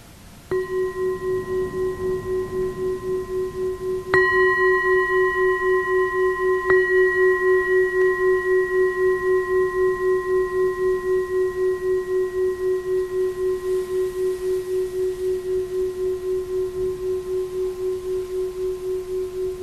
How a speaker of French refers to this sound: C'est possible qu'on note là, avec le son de la cloche quelque chose qui se relâche dans l'esprit, une tension, quelque chose qui se libère, ou au moment de bouger peut-être.